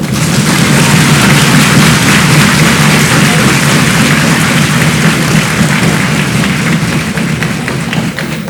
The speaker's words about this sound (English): And may I respectfully ask that we give an even louder applause to the Honorable Nabo because she's a woman.